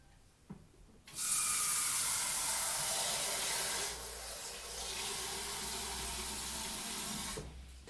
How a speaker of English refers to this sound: So what I'm going to do first is I'm going to fill a saucepan with water.